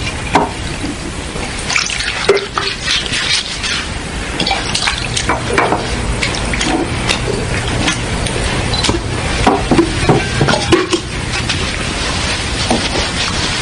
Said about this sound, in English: Then he poured some water into a wash basin and began to wash the disciples' feet. Dry them with the towel around his waist.